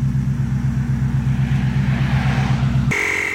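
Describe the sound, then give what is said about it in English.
A steady, loud low rumble of car engines on a road, droning evenly with no distinct pass-bys, as every car moves over out of one lane, then cutting abruptly to a different, quieter sound near the end. No one speaks. “He's making every car get over. Like, not a single car has gone on this path.”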